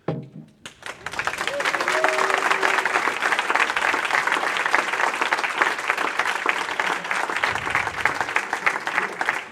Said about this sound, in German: Und am folgenden Applaus hört man, dass man Ihnen gerne zugehört hat.